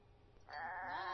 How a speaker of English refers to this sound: Honey, what's that noise? It sounds like goats. Oh yeah, it is. Come here, check it out. Oh my gosh, what are they doing on our lawn?